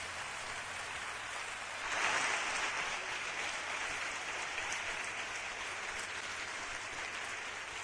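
Sustained crackling applause from an audience, rising into a louder swell after a couple of seconds and then continuing steadily at a fairly even level without any voices.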